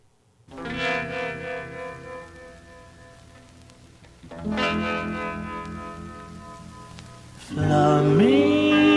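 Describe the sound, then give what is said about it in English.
A doo-wop song opens with two swelling, sustained chords ringing out with a wavering, echoing tone, then a louder sliding melodic line bends upward near the end. “And listen to this song right here.”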